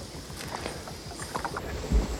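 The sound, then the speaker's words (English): A manatee surfaces behind a little bush about 15 yards from a small boat, a brief soft whoosh of breath and water near the end, over low rumbling water and wind noise with no talking. “There's a manatee behind this little bush. It's literally about 15 yards away.”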